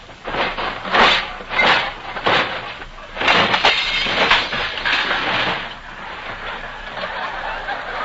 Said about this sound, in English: Whistling gaily, he opens the front door, walks briskly down the hall, starts down the steps to the sunken living room, and trips on a toy train that is parked in the middle of the street.